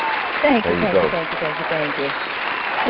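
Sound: studio audience applause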